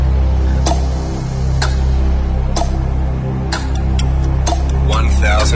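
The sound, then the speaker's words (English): A countdown clock for a cash bomb game ticks with crisp, evenly spaced clicks about once a second over a low, steady droning bed, the ticks growing quicker and more clustered toward the end. “Start that clock.”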